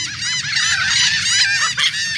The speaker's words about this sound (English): We're hearing the calls of royal terns. The birds we call terns look like sporty versions of gulls.